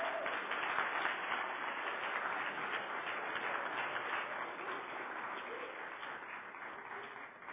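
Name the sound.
audience round of applause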